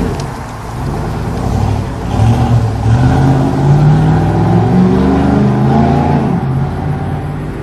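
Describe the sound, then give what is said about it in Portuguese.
A Chevette car engine revs and rumbles steadily as the car arrives, its low growl rising and falling over several seconds with no one speaking. “O Adriano chegando no seu Chevette aí, ó. Olha o ronco do motor, ó.”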